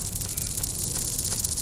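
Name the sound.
snakes hissing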